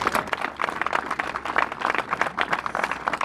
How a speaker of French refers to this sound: Donc, je voudrais que on prenne conscience de tout ça et qu'on les applaudisse encore une fois parce que c'est eux qui ont relevé en première ligne tous ces défis.